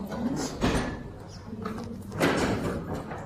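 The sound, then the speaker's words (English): Doors being opened, with two broad scraping, sliding bursts a couple of seconds apart over a steady low rumble of room noise, moderately loud. “So, yes, can we have the doors open now so that we can get a little cross ventilation?”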